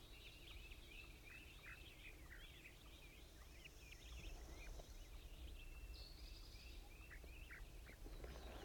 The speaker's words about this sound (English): Actually, I believe it's the wild bird.